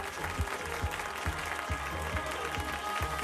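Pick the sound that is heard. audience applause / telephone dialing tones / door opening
audience applause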